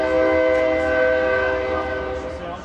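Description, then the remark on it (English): A train whistle sounds in one long, steady, chord-like loud blast that holds for the whole moment, with a low rumble of the train beneath it, at a railroad crossing on a downtown street in Flagstaff, Arizona, where the Santa Fe Railroad runs through the city. “The Santa Fe Railroad runs right through the city, and on this downtown street, there's a railroad crossing, so the train whistles echo through the day and the night.”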